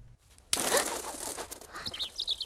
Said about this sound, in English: Then a bird flies past her and settles on a branch. It's a small red-breasted robin.